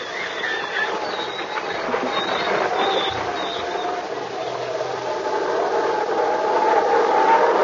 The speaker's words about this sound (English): Listen to that wind blow. And typhoon signal number 3 is up, too.